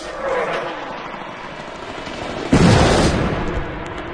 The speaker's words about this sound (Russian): Вдруг как взорвались зажженные ящики, и так грохнуло, будто бы тысячи громов в одном месте ударили, и тысячи молний из одной тучи сверкнули.